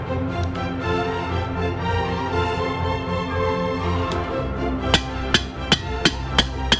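After a stretch of steady, humming tonal sound, a series of about six sharp knocks rings out in a fairly even rhythm, each one crisp and distinct, as a heavy iron hand-shaped knocker welded to a ring is struck against the wooden door of an outbuilding.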